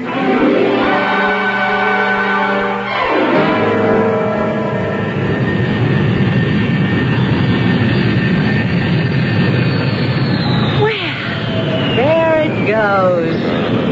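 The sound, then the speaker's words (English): A loud, steady airplane engine roar with droning tonal hum fills the whole stretch, shifting pitch as the aircraft pulls away, with whining sweeps near the end. “I had to see that plane in the sky before I'd leave.”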